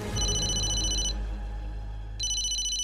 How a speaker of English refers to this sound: Then, her phone rings.